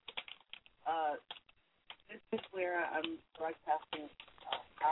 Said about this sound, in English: So bear with me just 1 second, because I'm actually talking, typing and talking and hitting buttons as I'm trying to reach you, the audience,